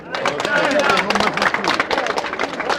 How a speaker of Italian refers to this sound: Un applauso.